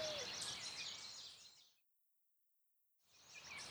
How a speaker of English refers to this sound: The little tweeter is a bird.